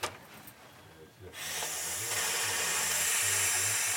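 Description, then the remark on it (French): A snake named Kiam, of a species known for hissing when it is frightened and defending itself, hisses defensively: after a brief quiet moment, a loud, breathy, continuous hiss starts and holds steady to the end, with a faint low hum underneath. “Alors effectivement, cette espèce-là est connue pour souffler. Hein, dès qu'ils se défendent, ils ont peur.”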